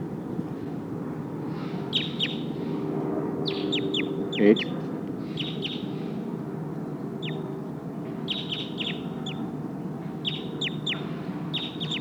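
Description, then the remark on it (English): A wild bird calls from the trees while being recorded, repeating bright, sharp chirps in quick clusters of two to four, with short pauses between bursts, over a steady low background hum. A voice speaks briefly. “Oh, sounds like one of the Sikansis birds is here in the trees.”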